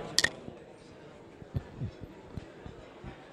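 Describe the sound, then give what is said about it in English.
Two beer glasses clink together twice in quick succession, bright, at the start of a toast, followed by soft thumps and low background murmur. “oh, our beer has arrived. Oh, that's good. Gross beer. Yeah, thank you very much. Cheers”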